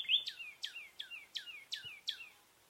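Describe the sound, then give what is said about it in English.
Sparse birdsong from a common nighthawk and a northern cardinal, recorded in Florida in 2017: a clear series of about six evenly spaced, downward-slurred whistled notes, moderately loud against an otherwise quiet background. Only two common nighthawks and one northern cardinal were counted. “Instead of 30 birds counted from 9 species, only 2 species of birds were counted that day, 2 common nighthawks and 1 northern cardinal.”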